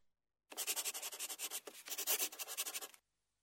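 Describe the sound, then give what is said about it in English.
A pencil scratches across paper, drawing a picture, in quick, rhythmic back-and-forth strokes for about two and a half seconds, with one brief pause midway. Dry, raspy and fairly loud, with no voices. “Pam the Monkey, draw a picture, please.”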